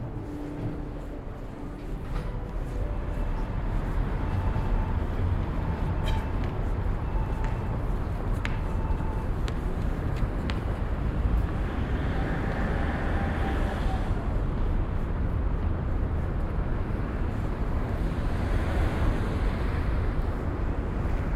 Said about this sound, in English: Yeah, there's a substantial amount of wind out here. Yeah, very windy, in fact. This should be a good test. We're clipping a little bit, so I'm going to turn the level back down to 20. Oh, very windy. Very, very windy.